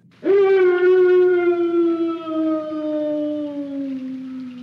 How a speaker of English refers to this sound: The Howling Man. As you can imagine, David is quite terrified by what he hears.